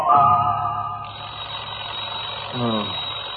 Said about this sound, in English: Alarm clock suddenly goes off.